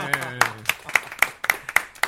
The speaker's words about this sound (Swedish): Men vi gör så här, en stor applåd till magikern. En applåd till magikern.